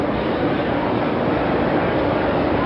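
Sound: train approaching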